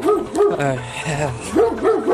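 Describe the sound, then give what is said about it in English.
A dog barks angrily, firing off a rapid string of loud, harsh barks with a few higher, whining yelps mixed in. “This is a very angry dog.”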